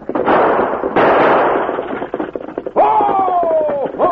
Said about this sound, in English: Boggs' horses, frightened by slaps and gunshots, raced away from the base of the mountain and continued over a small rise into a valley.